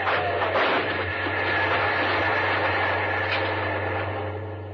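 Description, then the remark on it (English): A loud, steady mechanical roar with a deep droning hum runs throughout, like a train rushing past at a railway crossing with the gates down, with no voices heard. “We'll keep the train without any trouble at all. But the gates are down. And we'll go right through.”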